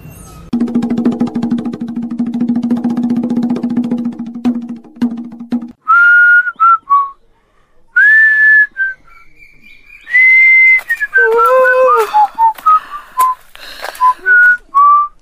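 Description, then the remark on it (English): A person whistles a lively tune in short, bright melodic phrases with brief pauses, clear, after a few seconds of steady low buzzing drone at the start. “You whistle no more.”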